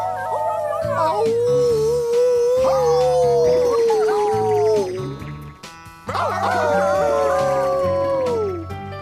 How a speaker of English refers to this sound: Sorry, folks. There are some dogs howling outside the studio.